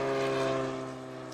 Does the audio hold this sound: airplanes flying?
yes